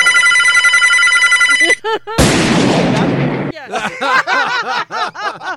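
A telephone bell rings loudly and steadily for nearly two seconds, then cuts off, followed by a harsh burst of noise and bursts of laughter.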